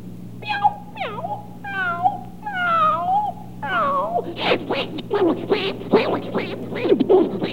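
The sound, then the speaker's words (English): Drawn-out, wavering cat yowls and meows rise and fall, then break into a rapid, harsh flurry of overlapping screeches and hisses, like cats squaring off and fighting. “Now, for the benefit of the household pets of our listeners, let's have a cat fight.”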